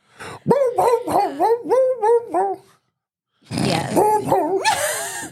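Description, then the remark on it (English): A person imitates a dog, humming a tune in a series of whiny, yowling dog-like notes, pausing briefly before launching into a rougher, howling continuation, fairly loud. “So like so it would be like a dog humming a song?”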